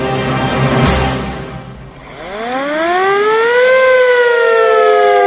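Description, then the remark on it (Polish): A loud alarm siren on the great tower of Czocha Castle winds up and wails steadily at midnight, its rising harmonic tone sustained after a brief noisy burst at the start, with no voices present. “Syrena na wielkiej zamkowej wieży i sygnalizatory alarmowe w korytarzach zabrzmiały o północy.”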